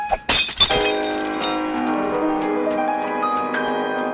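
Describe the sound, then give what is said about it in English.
A crystal aspergillum smashes in a sharp, bright burst of cracking and shattering, spewing dirt, crystal and water, then a long, ringing shimmer of crystalline tones slowly decays with scattered small tinkles. “And smashes straight through, spewing like dirt and crystal everywhere, as it just spills as much water out as possible.”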